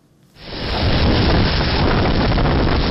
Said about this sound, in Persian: لحظه طوفان در نزدیکی مرز آلاباما در کامیراهای نظارتی یک مکتب در جنوب میسیسیپی ثبت شده است. شب جمعه گذشته در دو ایالت جنوبی طوفان سخت به عمل آمد.